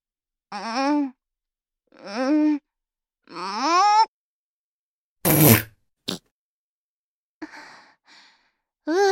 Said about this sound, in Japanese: まだ残ってるかな、おなら。出るかも。